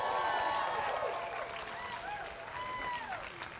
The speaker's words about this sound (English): So if you're glad to be here today and you're glad that the restriction is over where we can now meet, let's give a shout and a clap to the Lord.